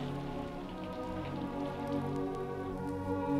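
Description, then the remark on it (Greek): Steady rain pours down onto a hard surface, a continuous dense patter that stays fairly loud and even throughout, with no voices present. “Ο Γεωργός, μόλις άκουσε το θόρυβο που έκανε η βροχή, έτριβε τα μάτια του από την έκπληξη.”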